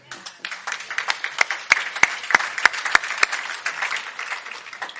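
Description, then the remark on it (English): Light scattered applause from a small group, a steady patter of hand claps with a few sharp louder claps standing out, lasting several seconds at a modest level. “It wasn't real loud hand clap, but a little bit.”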